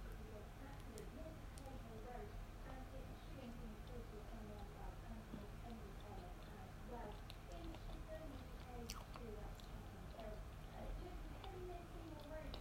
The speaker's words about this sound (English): Hope the chewing's not too awful.